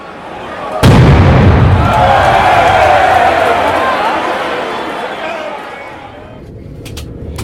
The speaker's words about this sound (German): auf der anderen Seite, in der anderen Fankurve, wir haben es gehört, eigentlich vor allen Dingen auch darin bestand, Böller zu werfen, um dann aber doch gegen Ende der ersten Halbzeit lautstärker zu werden und die eigene Mannschaft zu unterstützen.